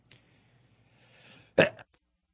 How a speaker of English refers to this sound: Excuse me, I sneezed. So all the AC just came on, and it's blowing dusty air in my face.